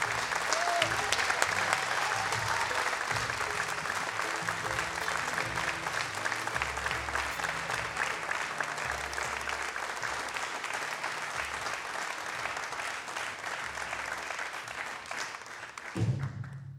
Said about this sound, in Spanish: En el ciclo de recitales, 80 años de Radio Nacional, se presenta en vivo y a sala llena, señoras y señores, en el Auditorio Mayor de la Folclórica. Aplausos para el dúo ….